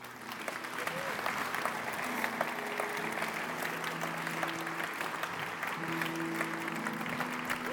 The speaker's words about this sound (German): Lass uns den Menschen mal einen Applaus geben.